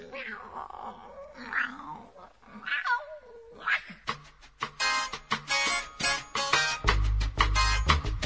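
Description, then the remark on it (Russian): A cat meows several times in drawn-out, wavering cries, fairly loud. Sharp rhythmic percussive hits follow and grow louder toward the end. “Я, кошка, хожу, где вздумается, и гуляю сама по себе.”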